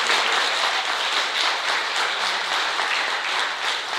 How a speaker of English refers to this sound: Let's give Chase for a great hand of applause.